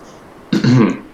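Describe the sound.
A voice imitates someone coughing up a bunch of water: one short, gurgling, throaty sputter, fairly loud, with no other sounds around it.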